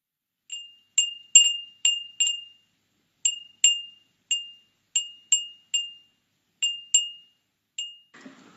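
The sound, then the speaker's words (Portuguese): A Japanese Edo furin, a traditional glass wind chime from Tokyo, tinkles alone in irregular bursts, about fifteen bright, ringing strikes that each fade quickly. It sounds clear, ending with a faint rustle. “Surgia ali o famoso Edo Furin, considerado até hoje um dos artesanatos tradicionais da capital japonesa.”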